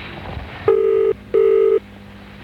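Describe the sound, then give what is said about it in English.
A telephone line ringing in a radio advertisement for Boyneside Radio Advertising, heard as two steady electronic ring tones in quick succession, each lasting about half a second, clear and fairly loud over a faint background hiss, with no talking. “Hello, Boyneside Advertising. All it takes is a simple phone call.”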